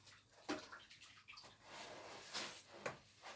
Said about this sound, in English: Forgive the noise, I'm just finishing up my bath. I'll just be 1 minute.